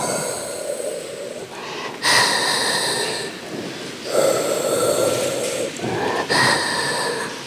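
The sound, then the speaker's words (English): A hospital respirator for a patient in a coma breathes in a slow, steady rhythm, each airy whoosh of inhalation and exhalation cycling about every two seconds, continuous with no voices. “Instead, what we have is this like steady, rhythmic, mechanical breathing.”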